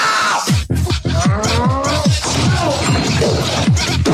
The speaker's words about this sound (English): Imagine it's a guy. Looks like it's a guy wearing some sort of a jumpsuit with a helmet and a face mask on. He's got a sledgehammer, and he's walking around smashing stuff, specifically a statue of the Virgin Mary.